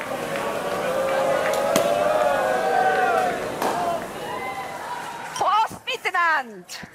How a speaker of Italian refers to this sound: Alle 10.50 di stamattina, fra coriandoli che piovevano e bottiglie stappate, l'inizio ufficiale della campagna.